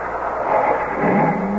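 vehicle, car engine revving

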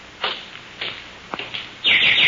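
bird, canary chirping

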